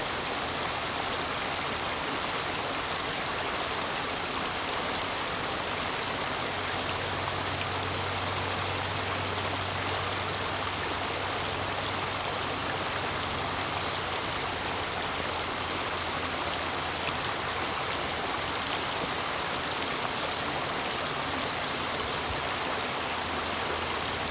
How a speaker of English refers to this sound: Can you hear the flies? The distant traffic? So many layers of life span across a small stream of water.